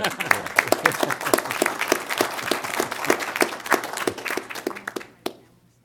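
A round of applause from a small group, steady overlapping claps for about five seconds before stopping abruptly, leaving near silence.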